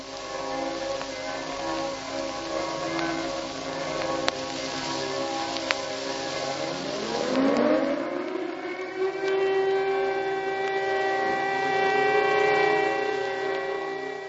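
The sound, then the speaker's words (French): Authentic 1945 radio archive recording from Prague: a wailing air-raid siren climbs in pitch and holds a steady howl while church bells ring and hum continuously beneath it, a dense, loud wash of sound with no voices. “Cet enregistrement authentique du son des cloches et des sirènes provient des archives sonores de la radio tchèque”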